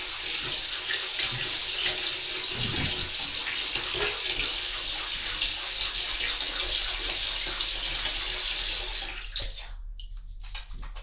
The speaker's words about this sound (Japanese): これは泡を立てている音。今手に泡がついている状態。